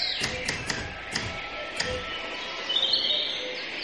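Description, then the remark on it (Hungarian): Small songbirds chirp and twitter in a garden, with a brighter burst of song near the end, while a few sharp tapping knocks sound in the first couple of seconds. “Kertben. Énekes madarak hangja szól.”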